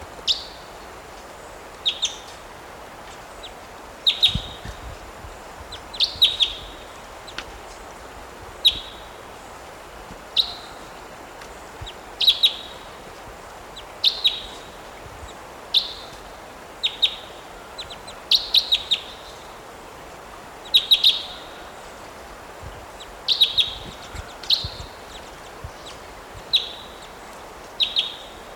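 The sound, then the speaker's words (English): Calls of a 'type two' wild bird in the trees above a net site repeat steadily, a series of sharp, high-pitched chirps roughly every second or two over faint background hiss, with no one talking. “Type two bird just flew in here.”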